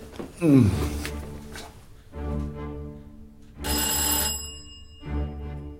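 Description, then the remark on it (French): A doorbell at someone's front door is rung over and over, four long insistent peals of bright, buzzing electronic tone with only brief gaps between them, and no voices. “Tu vas lâcher ma sonnette?”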